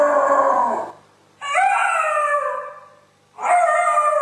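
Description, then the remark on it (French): A dog left alone howls in three long, wavering bursts separated by short pauses, loud, with no one speaking over it. “C'est la terreur des propriétaires, car ces hurlements gênent tout le voisinage.”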